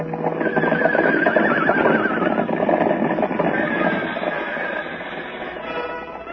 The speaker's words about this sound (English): Now toward the ranch house comes another horse. This one wears a saddle, but no rider. He runs free, his bridle whipping about his head.